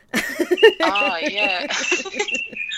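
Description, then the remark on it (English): Birds chirp and sing faintly in the background, thin high notes threading beneath voices that murmur and chuckle throughout. “Here's some beautiful bird song in the background as well.”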